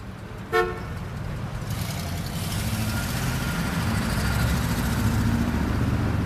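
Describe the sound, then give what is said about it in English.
A large American car's engine roars steadily on a highway at about 100 kilometers an hour, a dense low rumble that swells slightly as it goes, with a single short horn toot near the start. “Jim soon had his large American car roaring down the highway at about 100 kilometers an hour.”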